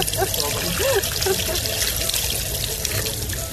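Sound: running water trickling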